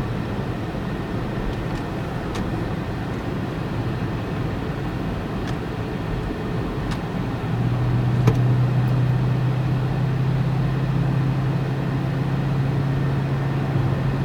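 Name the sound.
car driving on highway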